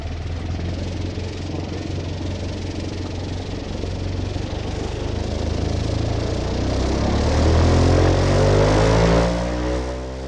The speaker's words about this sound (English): airboat in the Everglades